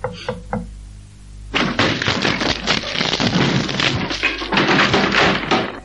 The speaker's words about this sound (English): I can't reach the keyhole. Oh, well, knock on the door, gently.